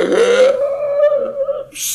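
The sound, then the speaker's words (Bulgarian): A loud, drawn-out sneeze: a sharp noisy burst followed by a long voiced wail that trails off, then a short breathy hiss at the end. “Той киха по 50, 100 пъти подред.”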